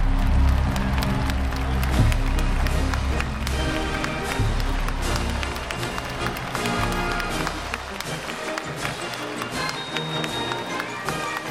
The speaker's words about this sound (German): Der Krieg, der militärische Vorstoß, ein ungeheurer Jubel brandet durch das Land.